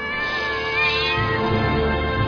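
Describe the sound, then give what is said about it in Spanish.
A cat screams in fright as it is grabbed by the scruff of the neck and thrown away from a fire, a loud, sustained, strained yowl held for about two seconds, harsh, with no talking. “Se oye al gato gritar de susto.”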